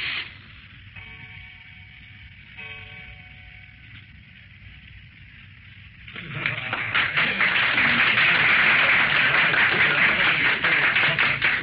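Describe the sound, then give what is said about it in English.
A quiet, steady tone with faint harmonics gives way after about six seconds to loud, dense applause from a group of gentlemen, many hands clapping in a sustained rushing clatter that continues to the end. “Thanks for the applause, gentlemen.”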